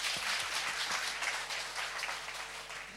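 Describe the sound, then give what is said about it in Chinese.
Steady applause from an audience, given to God, fills the whole three seconds, a dense wash of many hands clapping at an even level with no voices standing out. “能够同大家分享神的伟大、神的属性、神的美好，我俾掌声上帝好吗？”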